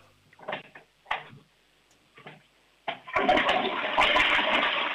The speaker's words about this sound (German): Das ist eine laute Klospülung. Also ich würde sagen, da kann man schon ordentlich hinein... Da ist trotzdem alles weggespült.